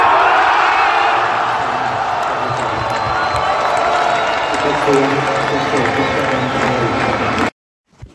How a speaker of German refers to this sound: Gut, das war jetzt unschwer am Jubel zu erkennen, wie die Partie ausgegangen ist. Also falls es wer noch nicht mitbekommen hat, die Tschechinnen haben gewonnen, denkbar knapp mit 10:8 im Match-Tiebreak.